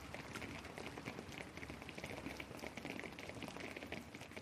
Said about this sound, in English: Even inside, you can't get away from the rain. This is the Rainfall Simulation Laboratory, which consists of a large steel frame, a bottle, a bucket, if you like, on top, and a box which is simulating the rainfall.